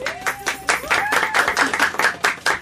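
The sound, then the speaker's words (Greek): A crowd applauds the 7th Gymnasium (secondary school) of Ilioupoli with steady, dense clapping throughout, joined by a few high whistle-like tones and cheers rising over the claps. “Λοιπόν, ένα χειροκρότημα για το 7ο γυμνάσιο Ηλιούπολης.”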